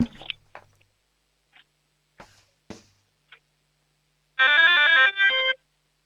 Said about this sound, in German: Das ist ja eine mega coole Türglocke.